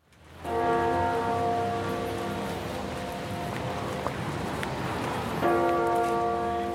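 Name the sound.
church bells ringing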